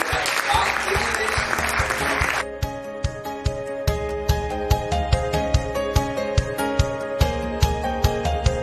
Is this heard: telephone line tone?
no